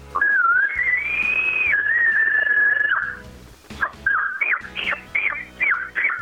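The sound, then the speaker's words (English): An imitated small bull elk chuckle, made with an elk call during the rut: a sustained, high whistling note lasting about three seconds, then a quick series of short, choppy yelping chuckles that rise and fall in pitch. “Do a small bull chuckle, and sound like a cow on estrus.”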